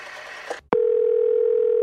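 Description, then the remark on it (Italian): A loud, steady telephone dial tone comes on abruptly after a brief click and holds unbroken, preceded by a moment of faint background noise as the line is picked up to call a communications agency. “Ora vi telefono, così per saperne di più.”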